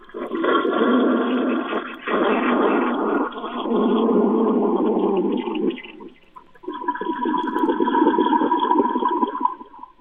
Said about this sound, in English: Oh, yeah. Now that's good radio. That's a flush. Yeah. There you go.